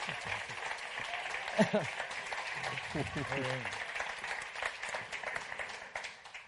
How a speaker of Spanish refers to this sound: Un aplauso, por favor. Gracias. No, un aplauso, claro. Aplausos. Para ellos, para ellos.